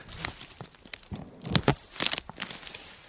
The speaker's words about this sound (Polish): Rzeczywiście jak się pociągnie, proszę państwa, za krzak tej rośliny, no to tak jak ziemniaki, tak się wyrywają te bulwy, oczywiście obtoczone ziemią.